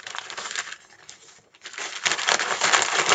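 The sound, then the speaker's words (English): Wrapping paper crinkling and tearing as a heavily taped gift, a beard grooming kit, is unwrapped: scratchy rustling, a brief lull, then louder, sustained ripping and crumpling. No voices are heard. “And why'd you use all this tape?”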